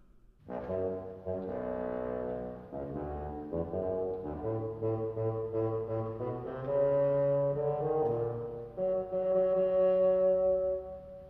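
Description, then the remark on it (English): A bassoon of a symphony orchestra plays the grandfather theme from Peter and the Wolf, a lumbering melody of low, reedy notes, some short and some held, rising slightly toward the end with no voices present. “Grandfather by a bassoon.”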